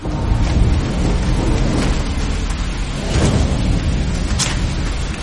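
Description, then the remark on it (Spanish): A heavy rainstorm roars steadily and loudly, representing the disastrous rains of July 1342, the Saint Mary Magdalene flood; dense rain hiss fills the air over a deep rumbling undertone, with no voices and no letup for the whole stretch. “En julio de 1342 hubo lluvias con efectos desastrosos.”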